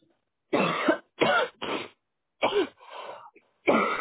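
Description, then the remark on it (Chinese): A fairly loud run of throat clearing and coughing, about half a dozen rough bursts with short pauses between them, one softer and more drawn out, and no talking. “好，我做一个祷告吧，因为我要不然要咳嗽了。”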